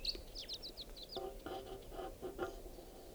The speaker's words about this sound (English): Pointing out the wild bird. In flight. Lone bird.